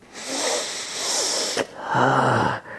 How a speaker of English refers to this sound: Let me sniff your hair, and I'll see what I can do to ease up on him. Really? Okay, you can sniff my hair.